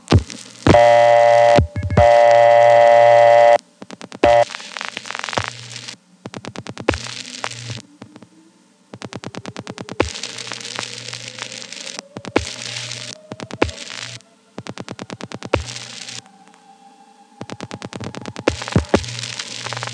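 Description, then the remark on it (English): Telephone switching sounds on a call from the Ho Avenue crossbar 1 through VZ Tandem 2 to a Centrex CU PBX: bursts of dial pulse clicks into the PBX and steady signaling tones over a low hum, with clattering relays and a faint rising tone, then a ringing number comes through. “The Ho Avenue crossbar 1 PCIs into VZ Tandem 2, which then dial pulses into the PBX, and we get a ringing number.”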